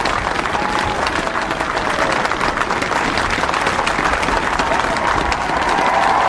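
A large crowd at the inauguration of Joe Biden as the 46th President of the United States applauds him steadily as he approaches the microphones beside Chief Justice Roberts. The clapping is a loud, dense wash, with faint cheering voices rising near the end.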